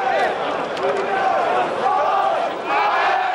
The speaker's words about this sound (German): Unaufhörlich fliegen Steine in die Fenster des Sonnenblumenhauses. Jeden Treffer quittieren die zu Tausenden umherstehenden Lichtenhagener mit Beifall.